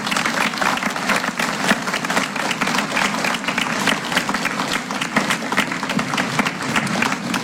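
Steady, sustained applause from an audience fills the room, a dense wash of many hands clapping at an even loudness for several seconds with no one speaking.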